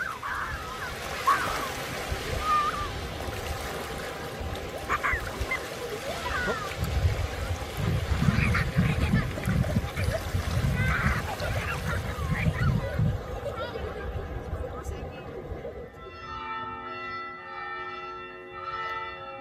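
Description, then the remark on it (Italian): Water splashes and laps along a Danube beach a few kilometres past Vác, reached by bicycle through a forest, in bathing weather, as some children bathe, their voices carrying faintly, over a steady low rumble of a large cruise ship passing offshore; a brief tonal hum appears near the end. “alcuni chilometri dopo Vác, siamo su una spiaggia raggiunta pedalando in mezzo a una bellissima foresta.”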